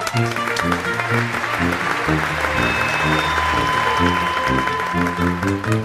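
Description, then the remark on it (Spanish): Loud, sustained audience applause welcoming the first comedian of the night fills the whole clip, a dense wash of clapping over an upbeat musical backing with a steady, rhythmic bass line. “Y recibamos con un fuerte aplauso a la primera cómica de la noche,”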